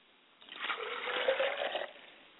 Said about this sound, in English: As I pour a glass for my Father's spirit, I say, Father. And as I pour a glass of water for my mother, I say, Ashe, Mother.